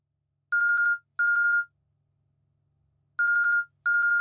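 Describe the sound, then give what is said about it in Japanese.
A phone ringtone chimes in two pairs of short, trilling electronic bursts, a pause of about a second and a half separating the pairs, clear with nothing else around it. “おた、電話だわ。”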